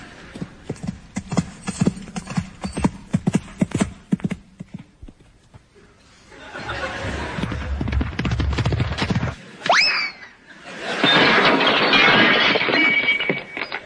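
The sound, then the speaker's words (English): A horse's hooves thud in a quick, uneven rhythm of sharp beats for a few seconds as show jumper David Broome jumps against the clock. After a pause, a broad rushing noise swells, a short rising squeal cuts through, then a loud steady roar. “Oh, yes, that's David Broome jumping against the clock.”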